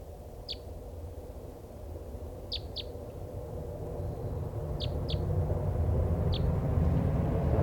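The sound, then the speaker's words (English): Short, high-pitched flight calls, sounding like a type three call, from the one bird still free of a flock of five being caught, sound about six times, often in quick pairs, over a steady low rumble. No one speaks. “This is the one still free. It sounds like a type three.”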